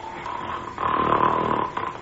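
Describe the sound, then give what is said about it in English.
A giant, asleep in a clearing on the highest point of a mountain, snores loudly and roughly, a sustained roaring breath that swells in the middle and eases off, with no one speaking. “Whatever in the world is that roaring, snoring sound?”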